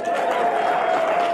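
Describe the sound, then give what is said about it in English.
A crowd applauds steadily, a dense wash of clapping that holds at an even, fairly loud level throughout, with a faint sustained tone running underneath. “A little applause for that now.”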